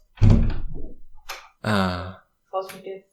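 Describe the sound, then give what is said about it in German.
A door is opened to let a male cat out, with a dull thunk, followed by two short, tonal squeaking creaks separated by brief pauses, all at moderate loudness. “So, jetzt muss ich meinen Kater tatsächlich rauslassen, dann gib mir mal.”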